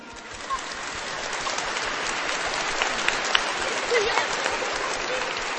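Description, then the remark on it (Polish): Steady, sustained applause from a crowd welcoming Bishop Antoni Długosz, a dense wash of many hands clapping at an even level for several seconds with no one speaking over it. “Przywitajmy już teraz księdza biskupa gorącymi oklaskami.”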